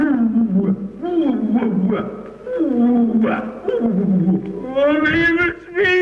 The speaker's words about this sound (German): Gott bewahr uns, der Löwe!